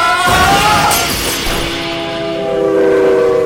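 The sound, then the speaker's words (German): A car smashes through the barrier of a gated railway crossing with a sharp splintering crash, while the loud, steady horn of the 5 o'clock train to Boston blares throughout and holds its chord to the end. “Edi, das ist bloß ein beschrankter Bahnübergang. Na warte, da brechen wir durch.”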